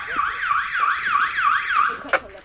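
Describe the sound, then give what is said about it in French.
A feeding-time bell at the CCC sanctuary rings at mealtime as a loud electronic warble, its pitch sweeping up and down in quick regular cycles for about two seconds before stopping with a brief click. “La sonnerie retentit à l'heure du repas.”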